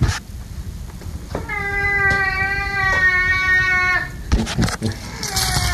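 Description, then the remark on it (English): A cat at home lets out a long, drawn-out yowling meow as its owner comes home, loud, holding a steady wail for a few seconds before it breaks off, then starts another cry at the very end. “But this is what it sounded like when I came home, and probably one of the longest frars I've ever heard this cat do.”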